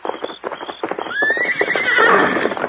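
A horse named Silver gives a loud, rising whinny that trails off in a shaky, fluttering neigh, preceded and accompanied by a quick series of hoof clops.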